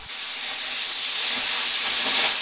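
An arc plasma cutter slices through a partly rusted steel printing plate with a steady, loud, bright hissing roar that holds unbroken for the whole stretch, swelling slightly toward the end, with no voices.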